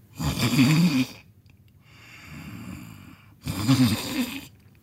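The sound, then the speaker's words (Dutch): Two people, deep asleep, snore loudly: two heavy, rasping, rumbling snorts with a softer, breathy inhale between them, in a slow sleeping rhythm with no talking. “Een ogenblik later waren beide koninginnen diep in slaap en luid aan het snurken.”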